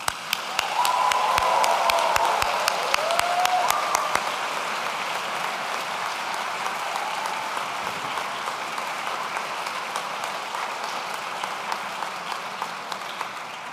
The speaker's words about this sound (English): Graduates, join me in thanking your loved ones for everything they have done to support you by applauding them very loudly with me now.